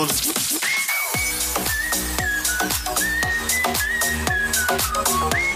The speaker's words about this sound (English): Get amongst this, you know, the whistling part. Mm-hmm. It kind of sounds like, you know, Shrek and Donkey are off on an adventure, except this time, I don't know, it's definitely a different adventure they're having.